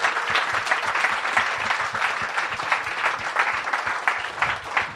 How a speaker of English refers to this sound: Let's have a round of applause for Ethan, please.